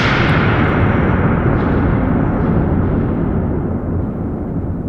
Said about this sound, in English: Odland steps toward two metal handles on the wall and smacks them with a mallet.